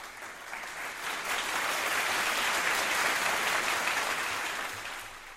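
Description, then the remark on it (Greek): Steady applause from a crowd, a dense wash of many hands clapping that swells quickly, holds evenly for several seconds, then tapers slightly toward the end. No voices. “Το χειροκρότημα είναι και για την”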